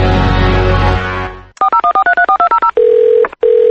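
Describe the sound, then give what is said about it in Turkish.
A quick run of about ten telephone keypad beeps dials a number, then a steady ringing tone sounds twice with a short pause between, loud, after a brief wash of noise fading out. “Salam, telefonu niye götürmürsen?”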